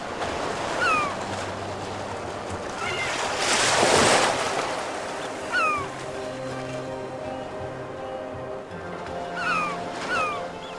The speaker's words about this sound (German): Also die CD heisst zum Beispiel schlicht und einfach … geht 52 Minuten. Also immer mit dem Meerrauschen, mit den Vögeln, die man da hört, wird angepriesen als ideal